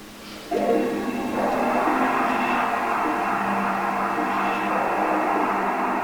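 An electric fan starts up after a brief quiet moment and keeps running with a steady, loud whirring hum and faint tonal whine, unchanging to the end.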